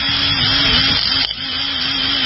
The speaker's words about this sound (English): Yes, electric power tools in the shop.